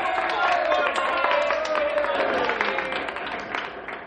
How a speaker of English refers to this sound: Now that the two top candidates have been named, please wait until I finish naming the other young people before applauding.